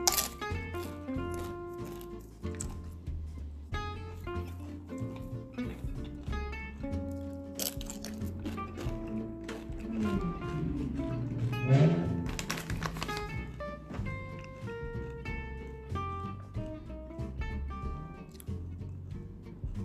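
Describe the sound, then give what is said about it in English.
Crisp, crackly crunches of someone biting and chewing bread, coming in irregular bursts with a few louder bites, over a steady backdrop of sustained melodic tones. “Crunch bread.”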